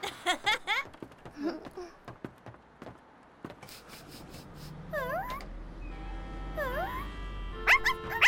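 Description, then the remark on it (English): A puppy, Blackie, gives sharp, high yips at the start and again near the end, with whiny, sliding whimpers in between, heard over a low rumbling background hum. “What a nice puppy you are.”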